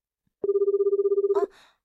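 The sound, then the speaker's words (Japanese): A smartphone rings in a rapid electronic trill, a steady tone pulsing quickly for about one second, then cuts off abruptly into a brief burst of noise. Fairly loud. “あ、弟くん、電話鳴ってる？”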